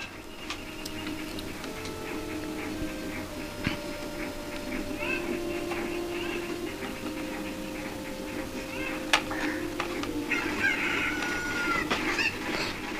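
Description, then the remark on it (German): Chickens cluck softly and continuously in an outdoor setting, a low steady chatter of fowl with occasional sharper clicks and calls rising above it, with no clear talking. “Papa, wo sind denn die anderen Hühner?”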